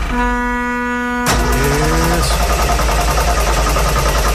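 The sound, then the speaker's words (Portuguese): A truck horn holds a steady tone briefly, then a woman driver starts the truck and its engine abruptly roars to life, settling into a loud, throbbing idle. “Liga o caminhão, é Leide.”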